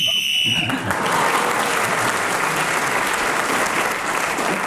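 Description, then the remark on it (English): A short, shrill whistle blast ending a round of a game cuts in at the start, then loud, steady applause from a crowd takes over and continues to the end. “You've got a point for speaking as the whistle went.”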